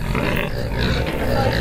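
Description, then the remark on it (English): A Gloucester Old Spot pig grunts and snuffles continuously, with low, rough, throaty sounds filling the short stretch and no one speaking. “He's a Gloucester old spot. I mean, they're a well-known old breed.”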